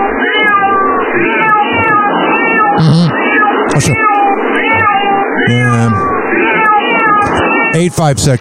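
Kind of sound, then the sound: animal, cat meowing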